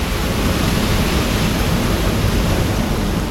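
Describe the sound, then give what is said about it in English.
A loud, steady roar of ocean waves crashing and churning around a stricken, flooded cruiser, one continuous wash of rushing water with no distinct breaks and no voices. “From inside the front section of the stricken cruiser, men clamber into the flooded main deck, waves crashing all around them.”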